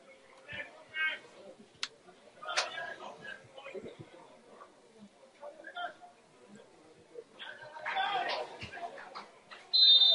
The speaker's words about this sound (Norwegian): Og der blåser Danner I sin fløyte. Kongsvinger har slått Raufoss 4-1 på Jemslund etter en kamp som hjemmelaget var klart mest effektive foran begge målene, og vinner da en fortjent seier.